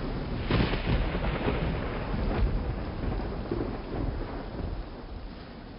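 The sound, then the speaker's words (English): Heavy rain pours steadily while deep thunder rumbles and rolls through a stormy sky at sea in October, around a 106-foot-long sailing ship with its sails furled, with a few sharper cracks early on. No voices, just the loud, continuous wash of the storm. “Nasty storms force the crew to furl all of the sails, leaving the ship to the mercy of the waves and wind, which knock them nearly 500 miles off course.”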